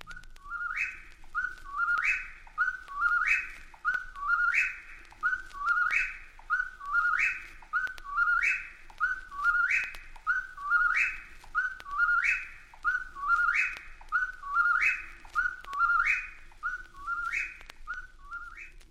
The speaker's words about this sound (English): Through the night, the incessant calls of the whippoorwill can be heard from New Brunswick to northern Georgia.